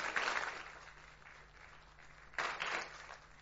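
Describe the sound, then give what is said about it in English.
An audience applauds, a dense wash of many hands clapping that eases off slightly, then swells again in a fresh burst near the end. The applause is for a man who has just sung a song. “You can clap him if you like.”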